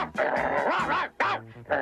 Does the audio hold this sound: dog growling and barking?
yes